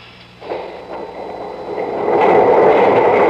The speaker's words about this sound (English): The doors are opening.